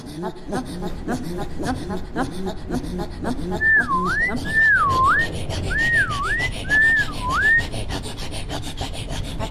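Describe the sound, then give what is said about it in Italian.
A man whistles toward the sky by a fjord under the northern lights: four swooping, dipping notes in a steady sequence, clear, over a continuous rough rasping, rubbing noise that begins with rhythmic scraping strokes. “sta fischiando verso il cielo per attirarla a noi.”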